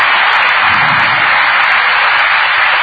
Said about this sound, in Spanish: Y un aplauso grande